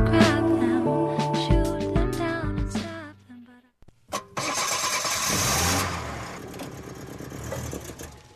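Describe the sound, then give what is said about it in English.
An old car engine cranks with a rough, stuttering whine, briefly cuts out, then catches and roars into a loud, rumbling idle that gradually settles. “One way that old clunker is going to make you feel good again.”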